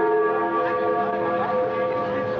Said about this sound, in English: Berlin's famous Freedom Bell rang out over the newly opened border.